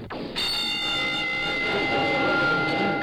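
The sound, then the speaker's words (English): A prison all-clear bell, sounded after the inmate count is complete as 757 men are released from their cells, rings loudly and continuously, a steady, harsh metallic tone that starts abruptly after a brief moment and holds without a break. No one speaks. “That's the all clear bell.”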